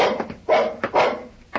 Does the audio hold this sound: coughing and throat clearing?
no